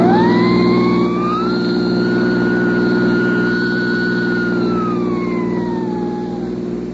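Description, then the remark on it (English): A police siren wails up and holds a long, steady high tone before sliding down, over the loud, constant roar of a car engine racing along. “Cops ahead. Get your gas out. Step in that siren mug and drive like hell.”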